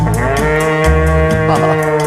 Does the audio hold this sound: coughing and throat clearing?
no